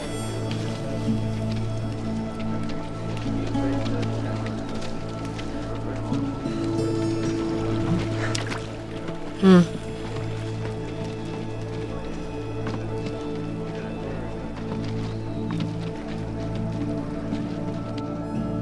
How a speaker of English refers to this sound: That's the baptism, isn't it, of Zach there, with the feet in the water.